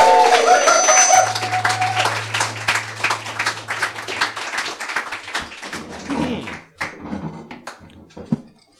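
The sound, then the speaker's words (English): An audience breaks into loud applause for the evening's players as a Dungeon Master's show begins, dense rapid clapping that carries on for several seconds, with a steady low hum and a brief tonal sound at the start before the clapping thins out toward the end. “All right, without any further ado or any more of me, please give a big round of applause for our players tonight.”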